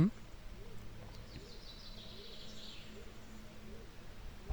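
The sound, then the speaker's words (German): Small birds chirp outdoors in a steady, repeating pattern, soft chirps against a low background hum, growing in number and continuing throughout. “Jetzt hört man Vöglein zwitschern, das wird immer mehr.”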